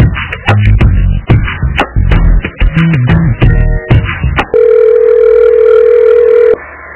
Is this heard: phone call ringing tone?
yes